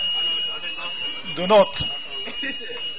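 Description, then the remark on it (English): A steady, high-pitched fire alarm tone drones continuously in the background while a person talks over it, with faint room noise around them; whether it is a false alarm is being investigated. “Sisters as well, they may go to towards the exit door just in case the situation is being investigated at the moment, whether this is a false alarm or not.”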